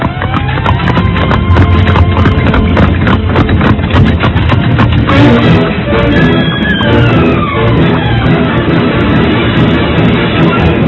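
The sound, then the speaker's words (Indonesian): Horse hooves clip-clop steadily as a horse-drawn cart carrying seven young women rolls along toward the royal city of Majapahit, the rhythmic clopping loud over a dense rumble of wheels and background noise, with no one speaking. “menyuruh 7 orang gadis naik ke atas gerobak kuda. Dan rombongan itu pun meneruskan perjalanan ke kota Raja Majapahit.”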